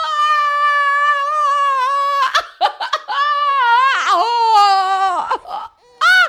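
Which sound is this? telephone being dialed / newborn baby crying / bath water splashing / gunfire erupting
newborn baby crying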